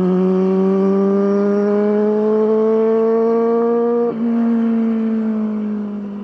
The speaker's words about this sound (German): Hier gilt es schon als sehenswert, wenn mal jemand mit einem schnellen Motorrad durch den Ort fährt.